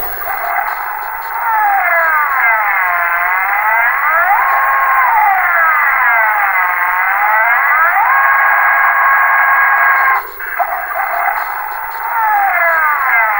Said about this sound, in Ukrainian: З телеекрана лунав пронизливий свист, що розривав вуха і півхвилини вив на одній ноті. Це був сигнал підйому для конторських службовців о 7:45.